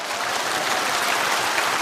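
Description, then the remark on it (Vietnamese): An audience applauds, steady dense clapping at a consistent loudness throughout, with no voices over it. “Chúng ta cho một tràng pháo tay để cảm ơn”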